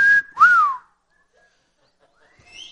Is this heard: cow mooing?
no